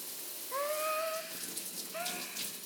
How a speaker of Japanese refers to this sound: シャワーかけてあげるね。暑かったら行ってね。